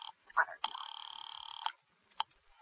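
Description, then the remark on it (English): A telephone being worked to reach the operator to call the police: a quick click, then a steady, rapidly pulsing electric ring lasting about a second, followed by one more short burst. Fairly loud, no talking. “Well, all right. I'll call the police.”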